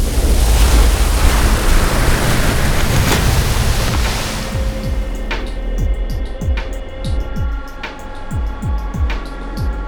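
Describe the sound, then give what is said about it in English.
A loud, churning rush of river water, the mythic river Styx between the world above and the underworld, surges like a pulling tide, then thins out into a low, eerie drone with steady deep thuds pulsing beneath it. “A tide pulls me from my body, then I'm falling, then I land.”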